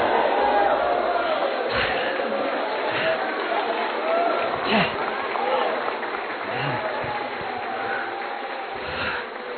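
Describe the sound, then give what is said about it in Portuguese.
A large crowd shouts and cheers together in response to a call to shout as if it is already done, a loud, sustained roar of overlapping voices, with scattered higher cries rising above the din throughout, with no pause or break. “Now, agora, you should shout, you know, like, vocês devem gritar, it's already done, como se já estivesse feito.”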